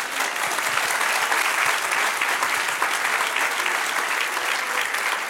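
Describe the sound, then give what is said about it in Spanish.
A church audience breaks into sustained applause for the Lord during a sermon, a dense, steady wash of many hands clapping at once, loud and even for several seconds with no voices standing out. “Dale un aplauso, Señor.”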